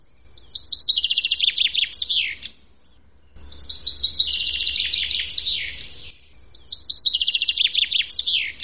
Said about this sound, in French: Il y en a un que vous entendez sûrement tous les jours. Tout le monde dit, on ne manque pas, il est là tous les matins. Qu'est le petit pinceau. Écoutez-le bien, le petit pinson.